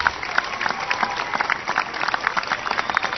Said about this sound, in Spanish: Un aplauso para acá, el representante de los salteños y jujeños.